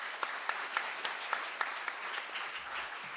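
A crowd applauds steadily, a dense wash of many hands clapping at moderate volume, with a few sharper claps standing out at a regular beat before it tapers slightly, welcoming the guests, authors, at a book discussion event.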